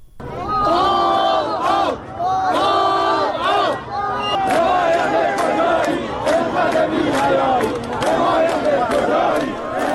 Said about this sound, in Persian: مردم معترض روز سه‌شنبه در مقابل استانداری این شهر در شهر کرد تجمع کردند و شعار مرگ بر رئیسی سر دادند. بر اساس ویدیوهایی که در شبکه‌های اجتماعی منتشر شده، صدها نفر در این تجمع اعتراضی شرکت کردند.